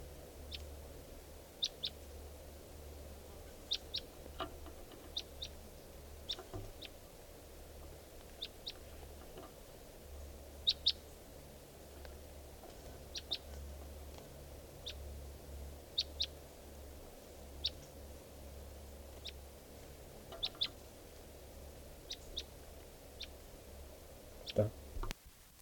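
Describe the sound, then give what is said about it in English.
A wild bird calls at 3:10 p.m. with short, sharp, high chirps repeated at irregular intervals for about twenty-five seconds, over a steady low hum. A louder cluster of chirps comes near the end. “and there's a wild bird here.”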